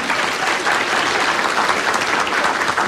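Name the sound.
audience applauding and cheering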